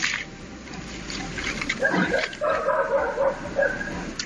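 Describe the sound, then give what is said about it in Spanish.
Dogs bark repeatedly at night in a village near Oviedo, Asturias, Spain, sharp yelping calls rising over a steady background hiss, with brief pauses between bursts. “Aparecen por las noches y los perros los perciben.”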